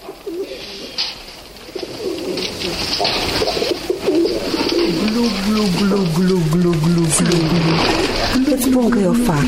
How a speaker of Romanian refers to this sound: Mai încet, mamă, mai încet. Sperii porumbei. Glu, glu, glu, glu, glu.